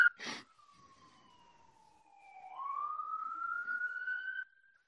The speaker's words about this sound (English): There's many sirens. Maybe I'll just pause for one moment while the sirens go by.